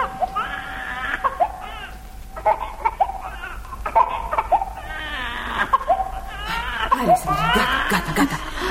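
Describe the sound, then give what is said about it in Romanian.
A newborn baby girl, just born, cries in a series of high, wavering wails broken by short gasping breaths, growing louder and more strained toward the end. “Așa strig copiii când vin pe lume.”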